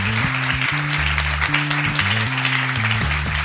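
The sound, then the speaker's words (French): Steady audience applause, a dense crackling wash of many hands clapping over three seconds, with a low, stepping bass line of music running underneath. “On peut l'applaudir parce que c'est pas un exercice facile.”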